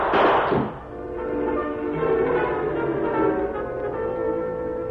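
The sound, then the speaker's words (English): A single loud, sharp gunshot as the Lone Ranger opens fire when a shack door opens, in a radio drama, bursts out at the start and rings off over a moment, giving way to a sustained, steady tonal drone of music with no voices. “He immediately opened fire.”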